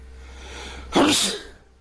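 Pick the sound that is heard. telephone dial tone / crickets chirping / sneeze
sneeze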